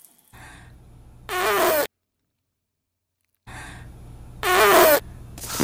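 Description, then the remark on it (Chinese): Two loud, short farting bursts from a woman, about three seconds apart, each raspy and fluttering, over a low steady background hum with no talking. “儿子，那妈妈就放屁给你听”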